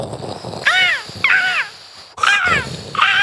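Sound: person imitating seagull calls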